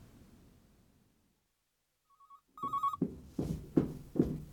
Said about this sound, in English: Mom, the telephone's ringing.